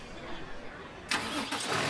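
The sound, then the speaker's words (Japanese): A night bus engine rumbles at idle, then roars to life with a sudden loud, bright surge of noise that continues steadily, rising again briefly near the end, as the bus is about to depart. “お、出発するみたいですね。”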